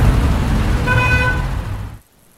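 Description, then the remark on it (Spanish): Steady roar of road traffic, with one car horn sounding a sustained toot partway through above the engine rumble, before the noise cuts off abruptly. “El tráfico a esta hora.”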